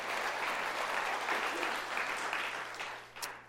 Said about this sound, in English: In 2013, our second year, the debt was completely paid off. Yes, you should clap for that. That is a God thing.